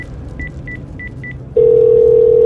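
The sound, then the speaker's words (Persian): Four short, evenly spaced keypad beeps as a number is dialed on an iPhone Pro Max Super Ultra 2X Large mobile phone to call the Raymond casino, then a loud, steady ringing tone takes over, all above a low background rumble. “آیفون پرو مکس سوپر اولترا 2X لارجش رو از تو جیبش در میاره و زنگ میزنه به کازینوی ریموند.”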